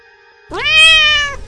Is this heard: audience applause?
no